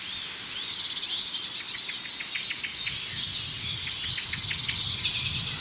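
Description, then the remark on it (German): Two rapid bursts of sharp, repeated blackbird alarm calls, high clicking notes tumbling quickly one after another over a steady outdoor hiss, with a brief pause between the runs. “Ja, da hört diese Aufregung der Amsel. Das Huit Huit hat aufgehört. Ja, da ist es wieder.”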